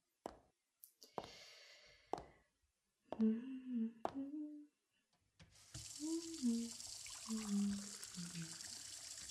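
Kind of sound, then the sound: household object, water running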